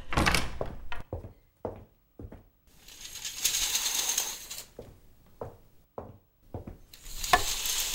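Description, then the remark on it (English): A door is shut and locked: a run of sharp knocks and clicks, a longer scraping rattle in the middle, then more quick thuds and clacks of the latch. “Are we supposed to lock it or leave it open? Lock it, definitely.”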